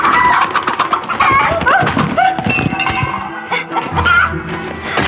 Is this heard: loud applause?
no